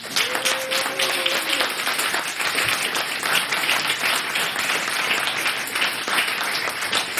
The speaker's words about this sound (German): Und ich finde nochmal einen großen Applaus für das Organisationsteam, oder?